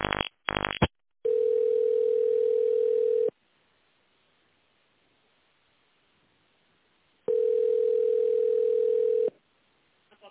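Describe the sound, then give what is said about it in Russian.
A telephone ringback tone while calling the company UAZ Avto, after an automated prompt to dial an extension: after a brief burst of clicks and beeps, two long, steady mid-pitched tones sound about four seconds apart, with silence between them and no talking. “Знаете внутренний номер абонента, наберите его в торговом центре и дождитесь ответа оператора.”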